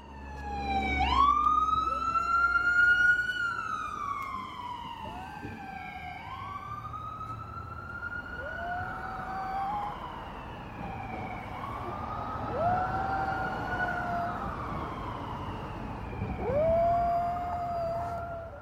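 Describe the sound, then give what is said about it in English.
A siren wails in long rising and falling sweeps while a small Havanese dog howls along, adding several drawn-out, wavering cries that arc up and down over the steady, loud siren. “One of the sound-making objects on the tape is my dog, and the other, well, it's easily recognizable.”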